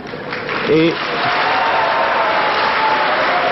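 An evening crowd shouting and whistling at a speaker roars steadily, with a loud shout rising above the din early on and thin, faint whistles piercing the noise now and then.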